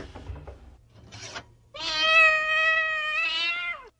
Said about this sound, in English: Now, where's that cat? Here, kitty, kitty. Come here, Oliver. Time to eat.